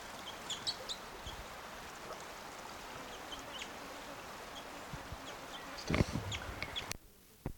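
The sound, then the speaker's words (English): Soft, high call notes from at least two type 2 crossbills in the trees right above a stream, recorded around 7:30 or 8 o'clock, come in short, scattered chips over a steady wash of rushing water, with a brief louder burst near the end before the water noise drops away. “And they're giving soft calls right above the stream.”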